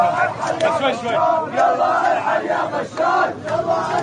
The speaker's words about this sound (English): This month, as this video shows, a crowd of hundreds of demonstrators chanted in unison in Sweida's main square.